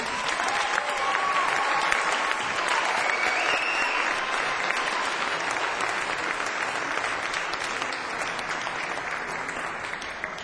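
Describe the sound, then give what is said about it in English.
An audience applauds steadily for about ten seconds, a dense, even wash of many hands clapping at a constant loudness, with a few faint cheers mixed in early. “our applause”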